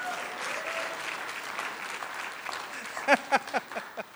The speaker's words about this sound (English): And so wherever I go, Pastor, I'm going to tell people, you know what they do in Niagara Falls? Every time somebody mentions an offering, they start clapping. Let's try it again.